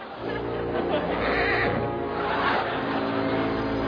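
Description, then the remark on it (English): A horse whinnies loudly, one long, shaky, drawn-out neigh that swells twice before trailing off, with no other sounds competing. “But Moinka, the horse has swallowed the transmitter.”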